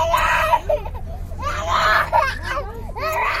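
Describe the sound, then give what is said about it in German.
A toddler of about one and a half screams and cries in three loud bursts with brief gasping gaps between them while an abscess on its neck and foot is treated at a field hospital in a football stadium, over a low, steady background hum. “Ein etwa anderthalbjähriges Kind schreit, als ihm ein Abszess im Nacken und Fuß behandelt wird.”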